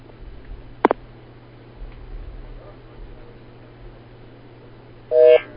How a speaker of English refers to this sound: Okay, looks like we lost her on the line, so we're going to go ahead and get her back, and we'll continue from there.